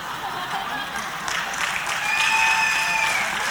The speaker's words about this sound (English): Okay, you see the people clapping? Those of you under 20, ask one of the people clapping.